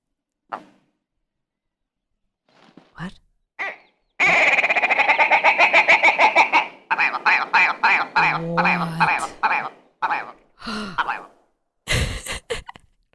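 A bird's mating call: a loud, rapid run of buzzy, stuttering pulses, followed by several shorter choppy bursts and scattered clicks, with no one talking.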